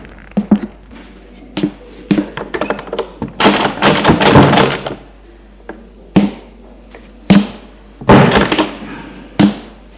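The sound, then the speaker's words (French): A heavy door at the back of a church is opened at about 12:30: a run of sharp knocks and latch clunks, then two longer rattling, scraping bursts, ending with a final thud. No one speaks. “Arrivés à l'église, ils vont ouvrir une porte derrière.”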